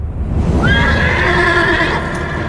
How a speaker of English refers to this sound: They galloped across the land on black desert chargers, 50 warriors following Jardir and Ashan on their white stallions.